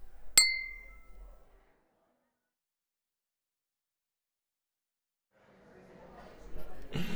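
A single bright clink of glasses touching in a toast to a reunion after a long time rings out near the start and fades over about a second, followed by silence and then a soft murmur of background noise.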